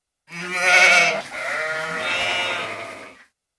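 Sheep in a field bleat loudly as they run in different directions: two long, wavering, nasal bleats follow one another with only a brief break, and no other sounds are clearly audible.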